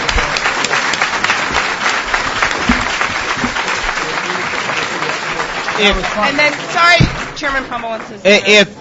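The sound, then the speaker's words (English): A crowd gives a round of applause, steady dense clapping for several seconds that thins out, followed by a voice starting to speak as the clapping fades. “Right, and so, can we just have a round of applause?”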